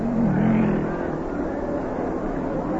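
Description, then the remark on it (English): Race car engines roar around a track in a steady, continuous drone, one motor's pitch rising and dipping slightly over the dense rumble of the pack, as the cars fall in behind the lead car before the start. “Now, the cars will light up as they go around the track, and they'll fall in behind the lead car.”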